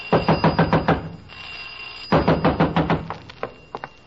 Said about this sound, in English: You better all come quick. I heard someone screaming and pounding on your garage door. There's fumes coming out.